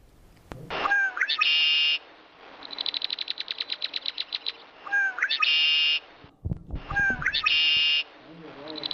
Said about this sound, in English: That is called a red-winged blackbird. And red-winged blackbirds love to sit on telephone wires.